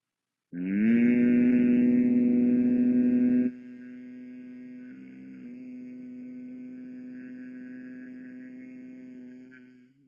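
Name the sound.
group humming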